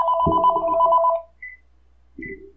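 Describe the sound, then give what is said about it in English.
A telephone rings loudly: a sustained electronic trill for about a second, then a pause and two shorter bursts of ringing, with no voices. “Oh, the phone. I forgot about that. Should I answer it?”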